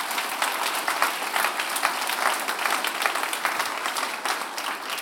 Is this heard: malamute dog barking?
no